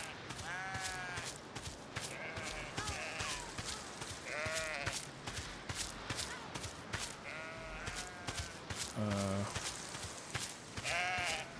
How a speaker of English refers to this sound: All right, so we got sheep.